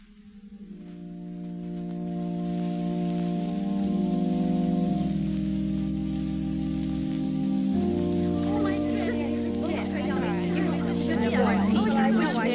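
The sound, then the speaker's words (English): Steady rain falling on a wedding day hisses without pause, mixed with a droning chord of low sustained tones that shifts pitch partway through, growing a little louder and busier toward the end. “Rain. Wouldn't you just know it? Rain for a wedding.”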